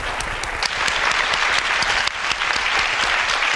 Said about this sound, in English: And really, can we give some tremendous applause to our panel, because they have been magnificent and they have given us their time.